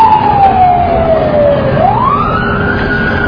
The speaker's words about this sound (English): Is the siren entirely necessary?